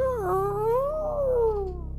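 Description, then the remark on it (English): A person's voice imitates the call of mating whales, with one long, moaning tone that dips, rises slowly and sags again over about two seconds, fairly loud, with no other talking. “It's a good thing that it was just doing the wave sounds, and it wasn't like whales mating.”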